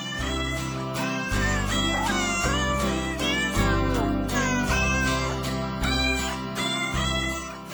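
A bouncy musical jingle built from cat meows, the pitched mews strung into a melody over a steady bass line and beat, loud and continuous with no talking, played on the radio show Animal World on Alternative Talk, AM 1150.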